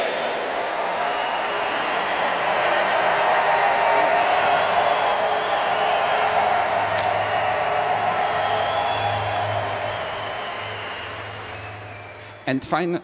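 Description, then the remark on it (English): A large festival crowd in Hyde Park cheers in a steady, loud roar of many voices that holds for several seconds, then gradually eases off, ending with a few brief sharper sounds. “And finally, the crowd here across the street in Hyde Park.”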